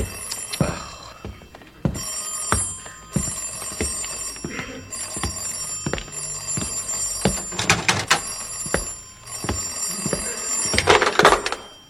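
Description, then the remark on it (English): A telephone bell rings repeatedly in bursts at night, fairly loud, with clattering and thumping noises like footsteps and doors between the rings as someone hops to answer it. “I mean, I'll have that phone brought up in the bedroom next week.”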